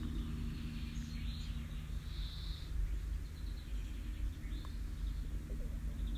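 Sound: birds chirping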